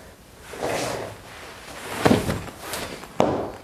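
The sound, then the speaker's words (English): A woman tumbles off a chair while failing, for the third time, to catch a candy cane in her mouth: a stretch of shuffling and scraping, then a heavy thud followed by a second sharp knock, with no talking. “falling from a chair as she fails for the third time to catch a candy cane in her mouth.”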